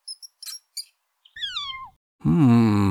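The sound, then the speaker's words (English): A few quick high-pitched squeaks, then a cat meows twice: first a thin, falling mew, then a louder, drawn-out, throaty meow. “And look, a cat and a mouse.”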